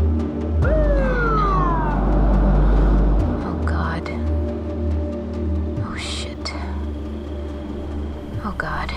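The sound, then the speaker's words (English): A short police car siren whoop sweeps downward near the start, heard over a steady low engine rumble at Slab City, followed by a few faint clicks and soft, hushed voices. “I think they scattered when they saw the cops.”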